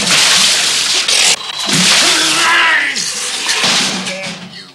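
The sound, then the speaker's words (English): A loud splash as a copper bucketful of water is dumped in a heavy rush over a sleeping man, followed by more sloshing and the man's startled voice groaning underneath. “He picks up a copper bucket, looks down at J.P., then douses him with water.”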